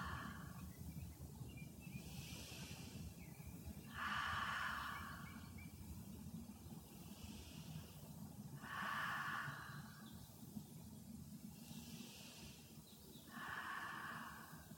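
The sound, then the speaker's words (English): Slow, steady breathing, in through the nose and out through the mouth during a stretching exercise, with airy inhales and longer exhales repeating about three times over a low background rumble, no one speaking. “You breathe in through your nose, lift your body up, and out through your mouth.”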